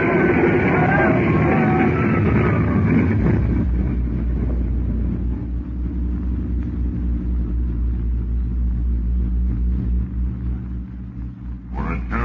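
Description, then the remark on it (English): A loud, crashing roar of an airplane slamming into a hangar after its brakes failed and it overshot the field fills the first few seconds, then fades into a heavy, sustained low rumble that continues to the end. “Your mind was staggered by the awful impact.”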